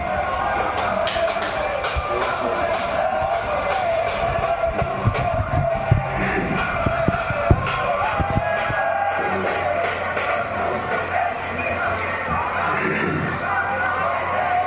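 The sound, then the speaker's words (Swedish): A street crowd dancing and cheering all day just outside a hotel in a monastery: a dense, continuous wash of mingled voices with scattered whoops, shouts and shuffling, holding a steady, fairly loud level throughout. “Dansar och dansar hela dagen höll de på så här.”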